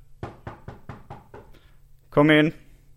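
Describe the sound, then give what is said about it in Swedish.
Six quick, evenly spaced sharp knocks on a door, growing slightly fainter, followed after a short pause by a brief burst of a voice. “Okej, men då knackar jag på nu då.”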